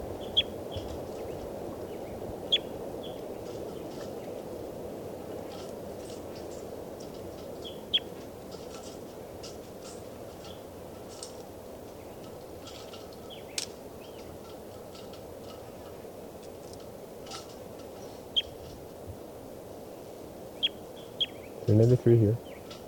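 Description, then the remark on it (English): A test recording of bird 393: faint, scattered high-pitched bird chirps come at irregular intervals over a steady low rumble of background noise, and a brief louder burst of noise arrives near the end. “Recording on test recording, bird 393.”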